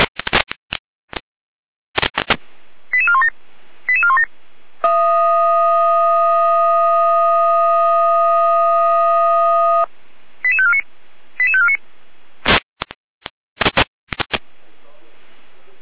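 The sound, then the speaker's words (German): Fire brigade radio alerting tones from the dispatch centre (Leitstelle), alerting the Moxa and Ranis fire brigades at 9:07 to an incident on the L2365, Baumhofstraße, in Moxa: crackling data bursts and quick chirping tone sequences, then a loud, steady tone held for about five seconds, followed by more short tone sequences and static bursts. “Leitstelle-Gehrer mit Alarmierung.”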